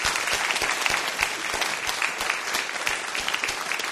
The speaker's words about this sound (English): Well, first it was …. And another big round of applause for …, because what you shared with us was wonderful.